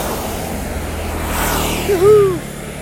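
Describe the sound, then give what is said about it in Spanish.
A car passes on a narrow street in Bali with a broad rising and fading engine rush, followed near the end by a brief tonal whine or horn-like sweep over steady traffic noise. “Las calles son muy pequeñas en Bali y los autos son cada vez más grandes, así que no sé cómo haremos.”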